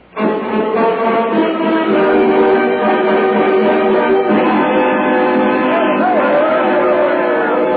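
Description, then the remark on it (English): An angry mob at the jail yells for blood, out to hang the playboys, in a continuous, loud roar of many overlapping voices, steady from start to finish with no clear words standing out. “There's a mob down there yelling for blood.”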